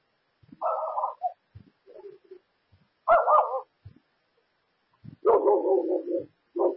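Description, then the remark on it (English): A dog barks in three or four separate bursts spread over several seconds, the last a longer run of rough yelping barks, fairly loud with no talking. “Yeah, well, that's the nature of a dog.”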